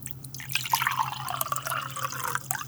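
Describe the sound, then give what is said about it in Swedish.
Water being drawn up and poured from a well, a steady splashing trickle with scattered drips over a low background hum, and no voices. “Men du har ju ingenting att ta upp vattnet med. Men vänta lite, jag kan fixa.”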